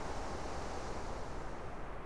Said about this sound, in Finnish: Nenätunturi on vilustunut, tuuli ujelsi.